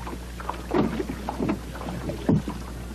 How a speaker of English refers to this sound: My boyhood was all the summer times of it was spent here in Penobscot Bay. This is the route this way, going along here now, so I'm rowing here, which I went off to get the mail every day, 2 miles away over at Eagle Island or Butter Island,